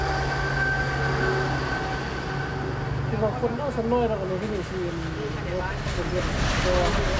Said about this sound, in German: Nicht weit entfernt ertönt das Warnsignal des neuen Schnellzugs.